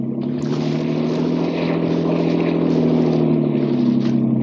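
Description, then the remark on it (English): A motorboat engine drones steadily at full throttle, a loud, unbroken roar with strong low harmonics and a faint rushing of water, holding constant for the whole few seconds. “Get more speed out of this.”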